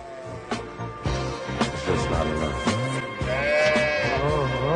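Several sheep bleat in overlapping, wavering cries, loud, with a steady layered chorus of baas filling the whole stretch and no talking.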